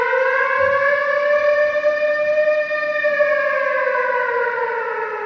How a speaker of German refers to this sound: vor allem die Älteren und Ältesten im Publikum, lässt womöglich jenseits aller dokumentarischen Erzählung von Schrecken und Schmerz, Gewalt und Tod vor allem diese Sirene erschauern. Was die ankündigt, weiß der eine und die andere durchaus noch.